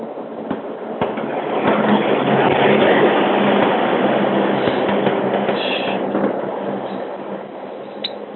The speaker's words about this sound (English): I think that was me with the bus going by.